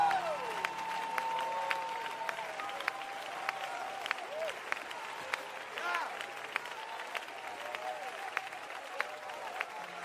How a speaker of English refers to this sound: I said, don't you clap over my results.